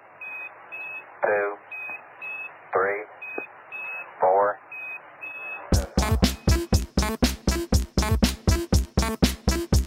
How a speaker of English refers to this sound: because people want to hear how you've got the Quindar tones into your music and all these other background music.